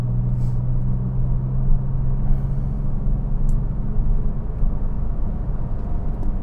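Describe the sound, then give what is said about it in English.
A steady, continuous low rumble of heavy road traffic and engine noise, on roads slightly greasy from light rain, with a constant droning hum underneath and no voices. “It's just too much traffic.”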